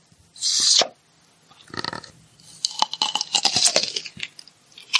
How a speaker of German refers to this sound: Das ist Gurkenglas öffnen. Ah! Frisches Gurkenglas von Knorr.